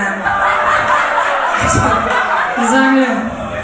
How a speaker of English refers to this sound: You got a round of applause, and rightly so, for your support.